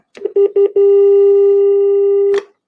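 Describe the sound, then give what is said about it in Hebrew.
Three quick electronic beeps from the keypad of an old home landline telephone on an old Bezeq line, then one long steady buzzing tone that ends with a sharp click. Fairly loud, with no talking. “טלפון של פעם.”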